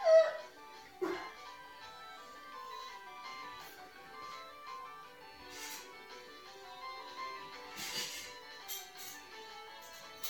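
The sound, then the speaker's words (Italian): In an eye-tracking computer game, a dog barks a couple of times near the start, then whimpers and yips over a bright, tinkling electronic melody that plays steadily throughout at moderate volume. “Ora cerchiamo il cane.”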